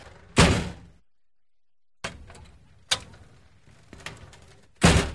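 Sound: door being opened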